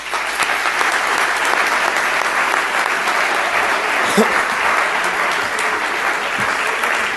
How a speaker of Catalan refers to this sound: Per a tots ells també demano un fort aplaudiment.